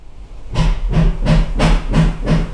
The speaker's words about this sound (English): It's alright, I'm paying him to do it. But you might notice a change in acoustics because I'm making this in my front room because there's a man making holes in my roof in the room where I usually make it in my house in North Manchester.